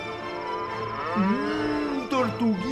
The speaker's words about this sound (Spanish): Mugía a su vez la vaca dibujada en el extremo izquierdo de la falda.